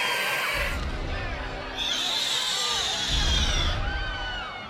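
A loud, chaotic din of many people screaming and shouting at once, with sustained high-pitched cries over a rumbling low roar, continuous for several seconds without a break.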